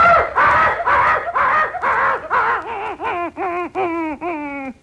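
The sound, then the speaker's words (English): A human voice imitating a frightened dog with a rapid, steady series of about ten high, whining yelps, growing clearer and more tonal toward the end, with no other talk. “Oh, well, let's see, a dog who's afraid.”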